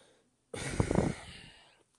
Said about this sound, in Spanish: perdón, que estaba respirando.